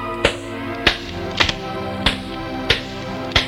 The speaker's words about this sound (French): Des coups dans la porte.